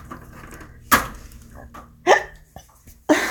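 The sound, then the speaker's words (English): Three sharp, abrupt hiccups from a person about a second apart, each a short loud gulping burst, with quiet background noise between them and no talking. “I have the hiccup.”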